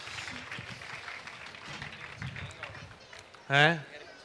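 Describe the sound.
Audience applause, a steady wash of clapping and crowd noise at moderate volume for several seconds, ending with a short, loud voiced shout or cheer.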